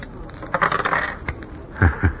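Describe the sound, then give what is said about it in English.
Old dice are rolled, clattering and tumbling across a hard surface in a quick run of sharp clicks and settling with a couple of final knocks on a deuce and an ace, fairly loud with no voices. “What do you want me to roll? A natural. 7.”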